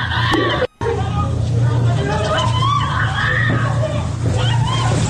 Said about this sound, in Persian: این صحنه جیغ و فریاد دوتا دختر بچه توی فردیس کرجه که برادران لباس شخصی به زور دارن بازداشتشون میکنن.